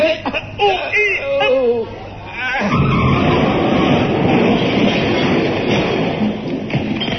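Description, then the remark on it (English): A man groans and grunts with effort for a couple of seconds, voice wavering as he strains to lift a heavy load of scrap iron into a smelting pit, before a loud, steady rumbling roar swallows the rest. “Right, I'll make the straining noises.”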